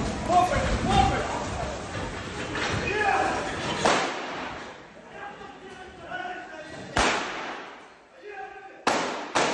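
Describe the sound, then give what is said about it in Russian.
Several sharp, loud gunshots crack out at irregular intervals over a noisy crowd of several dozen people trying to storm the Wildberries office at Romanov Dvor in Moscow on 18 September, with shouting voices underneath and a pair of shots close together near the end. “Еще через пару мгновений раздаются первые выстрелы.”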